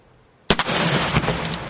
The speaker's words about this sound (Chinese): 每年的7月4日是美国的独立日，为了准备庆祝活动，美国消费品安全委员会星期三演示了烟花造成的破坏力以及造成人员伤亡的潜在的可能性。